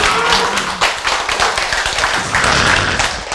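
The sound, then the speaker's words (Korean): A steady burst of hand clapping from a group, dense overlapping claps at an even, brisk rhythm, fairly loud throughout with no voices standing out. “그럼 이거 박수 한번 쳐야지.”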